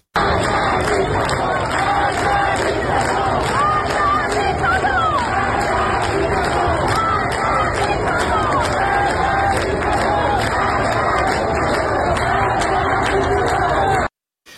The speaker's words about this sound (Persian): در تهران منطقه نارمک هم مردم در تجمع خود در شامگاه شنبه شعار مرگ بر دیکتاتور سر دادند.